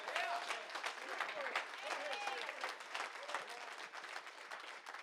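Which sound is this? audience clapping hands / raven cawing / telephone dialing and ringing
audience clapping hands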